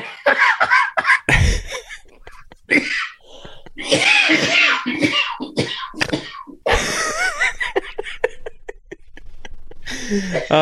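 Loud laughter from several people breaks up around a run of harsh, rapid coughs, with bursts of coughing and giggling overlapping and tumbling over each other for several seconds.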